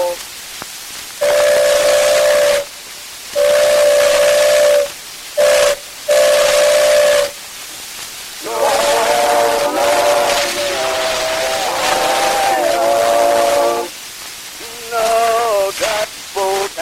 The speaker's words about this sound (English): that whistle blow.